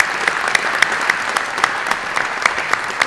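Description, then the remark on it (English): Steady applause from a church crowd for some young men after a prayer, a dense patter of many hands clapping with a few sharper claps standing out, sustained at an even, fairly loud level with no talking. “Let's clap for those young men just one more time.”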